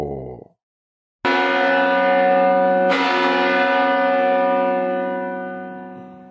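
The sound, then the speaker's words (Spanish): A large church bell tolls twice, loud, each deep, resonant strike ringing out with rich overtones and a long, slowly fading hum after a brief silence. “se considerara como tal el repique de las campanas de una iglesia”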